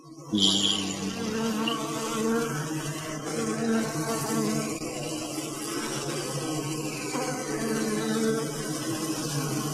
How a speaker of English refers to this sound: So I'm going to play a little bit of bees. And if you like, buzz along. And we're going to meditate here. Okay. Here's the sound of the bees.